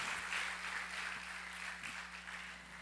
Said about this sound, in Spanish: dele un aplauso al Señor, déselo con ganas. Gloria a Dios, gloria a Dios.